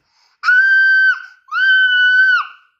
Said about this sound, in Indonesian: Teriak Ned. Ned merasa sangat, sangat, sangat jengkel.